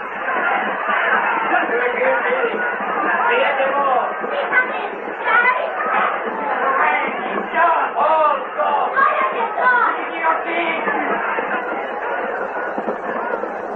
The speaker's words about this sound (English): The tumbril drew nearer the square. The crowd cried out in fury.